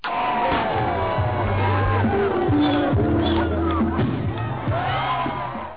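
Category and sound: crowd, audience applause and cheering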